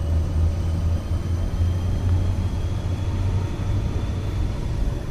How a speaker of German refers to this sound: Gemächlich setzt sich der Zug in Bewegung. 9 blau-gelbe Waggons und ein Postwagen auf dem Weg über fast 1000 Höhenmeter hinauf ins Gletschereis.